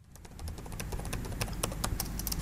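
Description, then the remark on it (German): Rapid, irregular clicking of laptop keys as a severe-weather researcher scrolls through a spreadsheet listing fatal lightning strikes from 2018, at a European severe weather conference in Kraków, Poland; fairly quiet, short sharp taps scattered over a low background hum, no voices. “blättert durch eine Tabelle auf dem Bildschirm seines Laptops.”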